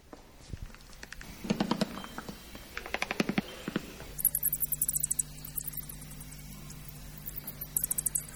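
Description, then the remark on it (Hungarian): Recorded bat calls play through a speaker under the interactive "bat bell" in the exhibition space of the Harkályház at Mátrafüred, run by the Bükk National Park Directorate: rapid bursts of dry clicks and ticking buzzes, later joined by thin, high-pitched chirps, all over a steady low electrical hum. No one speaks. “Ez a denevér harang, ami alábújva az egyik legfontosabb élőlény csoport, a denevérek hangját lehet meghallgatni itt a kiállítótérben, ahol számos más interaktív élményelem várja a látogatókat.”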